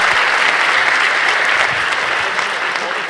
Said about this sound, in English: Give them a big round of applause right now.